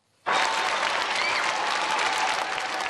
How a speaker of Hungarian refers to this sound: Hatalmas tapssal fogadták az országházban Kövér László házelnököt, aki átadta a parlament kulcsát.